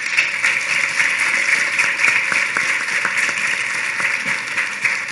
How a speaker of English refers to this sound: I think panelists, if you give them a round of applause, please.